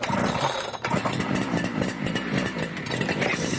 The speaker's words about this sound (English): But because it's a two-stroke engine, it could cause them problems. Sounds very two-stroke. Mm. The high revs that this engine kicks out are perfect for delivering fast power to a light machine, such as a chainsaw.